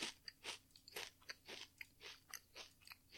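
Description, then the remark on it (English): Crunching of brittle food, a series of sharp, bright bites and chews repeating every half second or so, crisp and loud with no talking. “Anyway, here we go. Nice crunch.”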